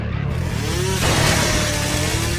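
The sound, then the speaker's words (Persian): A car engine revs, its rumbling pitch climbing and swelling louder midway, then holding a steady, roaring drone. No one speaks. “اگه سر راهمون قرار بگیره مجبورم با ماشین بکوبونم بهش، نمیتونم بذارم دستش به دنجی برسه.”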